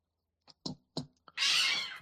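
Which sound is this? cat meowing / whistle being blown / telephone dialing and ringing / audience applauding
cat meowing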